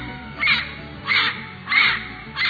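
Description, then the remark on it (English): A parrot squawks four times in a steady rhythm, each call harsh and raspy, separated by short pauses with no voices around. “And what's a pirate without his parrot?”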